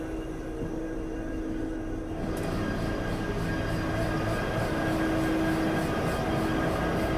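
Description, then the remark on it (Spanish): The engine of a Logitren 335 diesel locomotive, a General Motors 16-cylinder engine, runs steadily in the engine room at a Madrid freight terminal with a loud, constant low rumble and a humming tone; after about two seconds the noise brightens with added hiss. No one speaks. “Aprovechamos los últimos minutos para enseñaros nuestra locomotora, la 335 de Logitren.”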